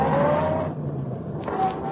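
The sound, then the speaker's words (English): The district attorney's car engine roars as the vehicle pulls off quickly and speeds away, with a brief squeal of tires and a steady, loud rush of motor noise; no one speaks. “Linda Travis was outside the hotel when the district attorney got into his car and sped away.”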